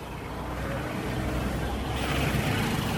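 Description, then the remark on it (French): Dense street traffic on Avenue Koudoukou through the PK5 grand market in Bangui, Central African Republic, late afternoon: a steady, loud rumble of engines from an endless column of cars and motorbikes mixed with pedestrians, a continuous busy roar with faint voices mixed in. “Sur l'avenue Koudoukou qui traverse le grand marché du PK5, piétons et une colonne interminable de véhicules et motos s'entremêlent.”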